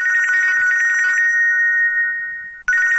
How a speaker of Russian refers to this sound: Звонки мобильных телефонов сопутствуют нам теперь везде – на работе, в транспорте, дома и даже в театре.